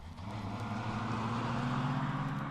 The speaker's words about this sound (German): Vor dem Haus wartet schon ein Auto und ab geht es zum Raketenstartplatz.